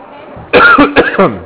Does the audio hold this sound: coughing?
yes